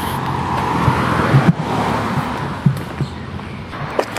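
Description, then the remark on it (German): A car being unlocked and its door opened in the evening, heard as a few short clicks and a clunk over a steady wash of outdoor street noise. “Zack, Auto auf.”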